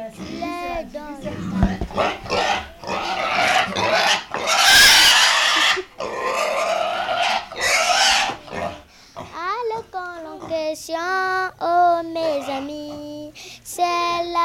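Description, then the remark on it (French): A pig grunts and lets out loud, harsh squeals in repeated bursts, followed by children's high voices talking and calling out. “Nous faisons connaissance avec sa famille, qui nous accueille avec enthousiasme et nous fait découvrir une spécialité Mbembe, le Nyulbumako, cochon à la banane que nous avons connu bien vivant.”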